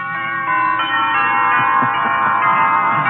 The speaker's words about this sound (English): I understand. Wedding bells. Right.